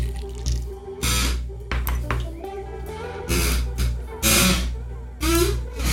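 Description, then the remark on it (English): A squeaky chair creaks in a string of irregular, fairly loud bursts, some with wavering squealing tones over a low steady hum, separated by brief quieter gaps. “It's a squeaky chair.”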